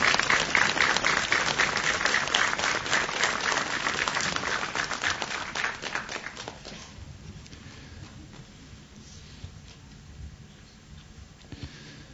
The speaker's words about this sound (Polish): Jeszcze brawa dla rodziny.